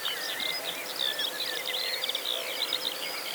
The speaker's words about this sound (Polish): a w tle za to nieustannie towarzyszące tło, o czym nie powiedziałem, skowronki pięknie śpiewające jeszcze, o tak do połowy lipca.